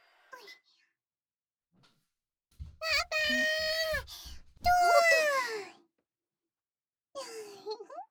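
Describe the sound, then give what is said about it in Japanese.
A kitten meows several times, fairly loud: a short cry, then two long, drawn-out wailing meows back to back, and another brief meow after a pause. “聞いてたよりもやんちゃだな。子猫ってこんな感じなんだ。”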